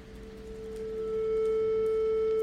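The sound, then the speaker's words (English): A steady pure electronic sine tone generated by a line of code in SuperCollider holds one pitch, swelling slightly louder as it continues, smooth and unbroken over faint background hum, with no voices. “That's a beautiful, smooth, continuous, and perhaps slightly boring sine wave.”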